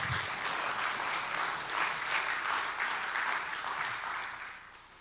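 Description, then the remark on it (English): An audience claps together for the Lord in steady, sustained applause, a dense wash of many hands that holds loud for several seconds before beginning to taper off at the end. “So as much as, you know, we get excited about our favorite football team, our favorite this, or our favorite that, can we just take a moment and give the Lord a hand clap of what the Lord has done?”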